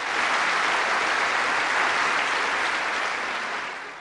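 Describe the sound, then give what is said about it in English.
A large audience from the world of culture applauds and cheers to greet Benedict XVI in the city's largest auditorium, part of an arts complex in Portugal. The dense, steady wash of clapping stays loud and even for about four seconds before easing slightly at the end. No one speaks over it. “And in this auditorium, a radiant Benedict XVI was greeted by all present, with unusual cheering from this kind of highbrow audience from the world of culture.”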